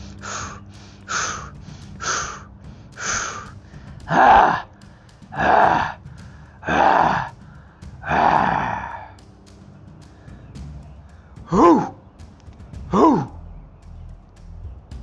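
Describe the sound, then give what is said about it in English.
A series of deep, heavy breaths done as a breathing exercise, quick inhales giving way to longer, forceful exhales in a steady rhythm, with no talking. “Let's do some breathing.”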